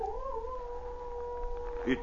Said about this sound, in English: Sergeant, you hear that? Yes, a wolf howl.